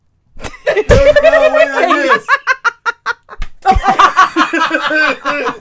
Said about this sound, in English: My face? Yeah, that's where you get slapped.